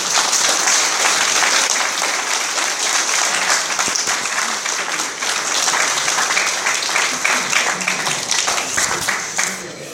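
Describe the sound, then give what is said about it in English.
A crowd breaks into sustained, dense applause for a speaker who has just finished a talk, many hands clapping at once in a steady, loud wash that continues for the full stretch without letting up. “Another round of applause, please.”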